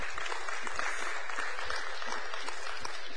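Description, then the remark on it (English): A church audience applauds with dense, continuous clapping that holds at an even loudness throughout, punctuated by a few dull low thumps, with no voices standing out. “Y'all come give with a big round of applause today.”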